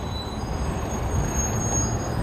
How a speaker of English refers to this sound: Now, see? Here's the kind of bus it's supposed to be on this street. Not the other guy. See, that's the kind of bus it's supposed to be on the street. When we got the orange one, I'm just saying. See that? That's the one. Not that orange one we saw.